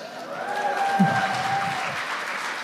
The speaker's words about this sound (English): In about 30 seconds, you need to give my wife a big round of applause. Today, she has been married to me for 12 years.